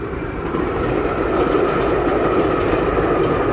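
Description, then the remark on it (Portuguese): A subway train rumbles steadily along the rails, a loud, continuous roar with a faint rhythmic clatter running through it, with no voices. “O uso de meios de transporte coletivo, como o metrô, ao invés do carro, traz consequências diretas na vida das pessoas.”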